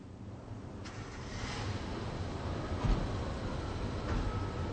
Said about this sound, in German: Puh, ist das kalt und windig hier. Ja, liebe Hörerinnen und Hörer, heute stehen wir an einem wirklich kalten Platz. Seien Sie froh, dass Sie zu Hause vor Ihrem Radio sitzen. Wir sind hier in einer Wohnanlage in Rostock.